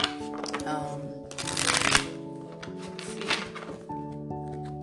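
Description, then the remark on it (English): A deck of tarot cards being shuffled, with a loud crisp riffling burst midway and a shorter flutter later, set against soft sustained background music. “I shuffled again.”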